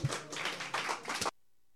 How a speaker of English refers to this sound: And let's give a big, big, big round of applause